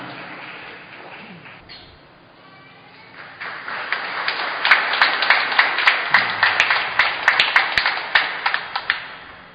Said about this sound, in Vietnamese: Chúng ta cho một tràng vỗ tay chúc mừng hai vị đã làm rất lâu trong thời kỳ giáo xứ của chúng ta.